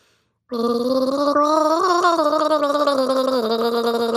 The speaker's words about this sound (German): Lotta steht auf ihrem Hocker vor dem Waschbecken und gurgelt nach dem Zähneputzen.